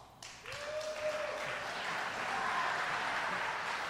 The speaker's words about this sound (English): I knew you couldn't hold your applause on that one.